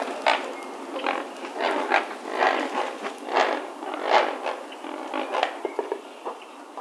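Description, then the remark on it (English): A great blue heron calls in flight with a steady run of harsh, raspy croaks, irregular bursts of coarse noise that swell and fade over several seconds, with no voices. “Here's a great blue heron in Sonora, Mexico, calling in flight. This next bird is also flying.”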